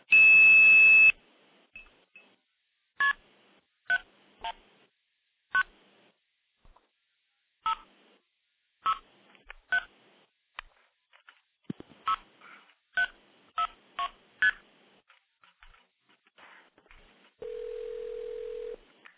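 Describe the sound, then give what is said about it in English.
A loud, high steady 2600 tone sounds for about a second, followed by a quick series of short, beeping tone bursts dialing a number, then a lower steady tone at the end. “So you can call into the system, make a call, blow it off with 2600, redirect it to another number without actually hanging up and starting over again, which is exactly the way it worked back in the 70s.”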